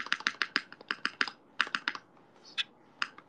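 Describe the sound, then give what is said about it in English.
Crisp typing on a computer keyboard with a 7U space bar: a quick, slightly uneven run of clacky keystrokes with brief pauses, including a deeper thock near the end, and no one speaking. “Okay, here we go. 7U space bar.”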